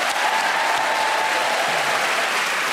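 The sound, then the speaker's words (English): A studio audience at the Radio Theatre in Broadcasting House claps steadily to welcome the four panellists of Just a Minute, a dense, even wash of applause holding at a constant loud level for the whole few seconds, with no voices standing out. “Will you please welcome all four of them?”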